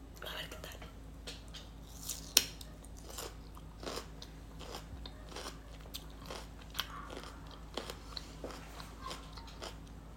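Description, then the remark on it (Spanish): Someone bites into a homemade pickle made from regular cucumber and chews it, producing a steady run of sharp, wet crunches with one especially loud snap early on, over a low constant hum. “Es la primera vez que hago pepinillos con pepino normal.”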